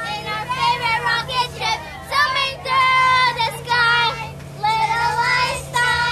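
A group of children sing a cartoon theme song together in high, bright voices, the tune coming in short phrases with brief pauses, over a steady low engine hum.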